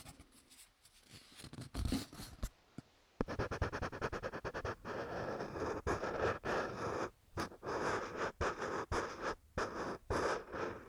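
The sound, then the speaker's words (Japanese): Colored pencil scratching across a stiff autograph board (shikishi) in quick back-and-forth strokes, a dense, raspy papery texture with brief pauses between bursts. No one speaks. “私がね、よく色紙のサインをしているので、それでね、この色塗りの音とかを配信してるんですよね。”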